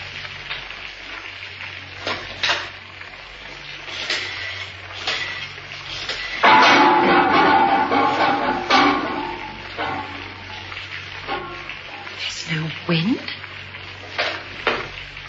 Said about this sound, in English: Oh, here comes the rain.